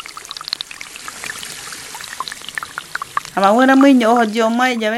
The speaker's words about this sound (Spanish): Regaba la tierra con la poca agua que llevaba el río.